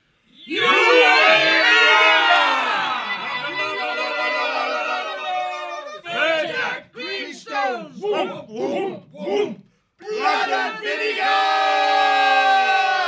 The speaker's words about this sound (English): Breaking into a headlong run, the warriors from the mountain brought their weapons up. Spears and javelin tips glinted, swords and rapiers flashed. Amid the thunder of paws, wild war cries and battle shouts rent the summer air.